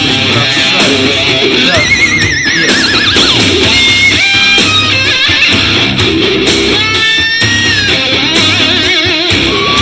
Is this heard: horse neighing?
yes